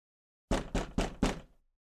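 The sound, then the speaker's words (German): Four quick, firm knocks on a colleague's door, evenly spaced in a brisk rhythm, clear with no voices around them. “Ich gehe zu der Tür meines Kollegen und würde doch relativ selbstbewusst dreimal anklopfen.”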